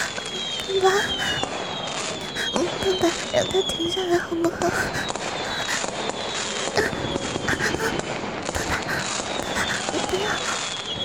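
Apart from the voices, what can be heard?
fireworks exploding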